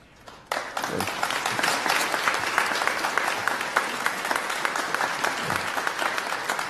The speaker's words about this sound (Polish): Na oklaski nie czekałem i ich się nie spodziewałem, a teraz oddaję głos ojcu dyrektorowi.